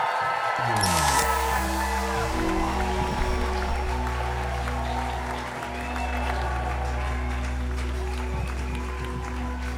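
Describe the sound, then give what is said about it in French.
A crowd claps steadily for about ten seconds to welcome arriving guests, a dense wash of applause layered over loud, sustained low-pitched music that shifts in steps. “Je vous demande d'applaudir très fort …,”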